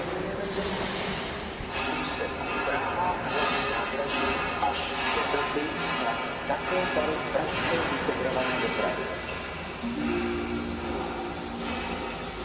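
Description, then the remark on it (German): Pneumatic jackhammers rattle in rapid, hard bursts during renovation of an old railway station, heard from the station café, through a dense, steady wash of background noise, with indistinct voices mixed in and the hammering continuing throughout. “Im Hintergrund sind schon die Presslufthämmer zu hören.”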